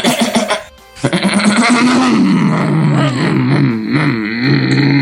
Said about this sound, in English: Hey, is one of your friend Steve's horses in the room? I hear a lot of whinnying.